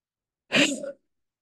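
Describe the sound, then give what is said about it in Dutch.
A single forceful huff cough made with the vocal cords held open, as if saying an H: a sharp breathy burst of air pushed out through an open throat, fairly loud, lasting under half a second with silence on either side. “En dan doe je wel net alsof je gaat hoesten. En dat heet huffen.”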